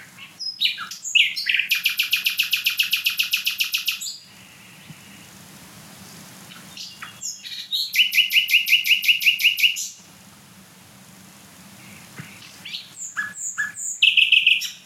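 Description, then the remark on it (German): A nightingale, a small songbird smaller than a blackbird, sings loudly in three long, rich phrases of rapid repeated notes and trills, separated by short pauses, with no other birds or voices. “Und ich meine, der Vogel ist kleiner als eine Amsel. Das ist, auch wenn jetzt kein anderer Vogel singt und so weiter, mega laut trotzdem.”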